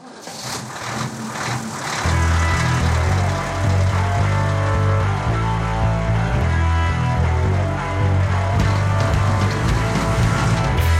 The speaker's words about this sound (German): Da wollen wir mal den Motor anlassen. Geht los, hey!